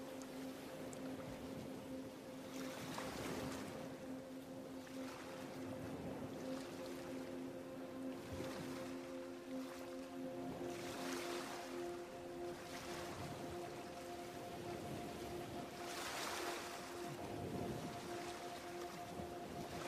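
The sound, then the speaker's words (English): Ocean waves wash in and recede in steady surges every few seconds, a continuous roar underneath with a faint low hum running throughout. No one speaks. “of the waves, and your imagination of the peaceful view, allowing whatever is to simply be as you relax more and more deeply into the peaceful sound of the ocean.”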